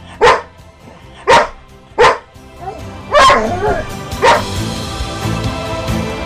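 A dog barks five times, three sharp evenly spaced barks followed by two louder, longer ones, loud over a low background hum.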